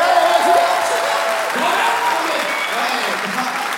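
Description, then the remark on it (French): Sustained audience applause fills the whole stretch, a dense, steady clatter of many hands clapping, with faint voices mixed in underneath. “Applaudissements.”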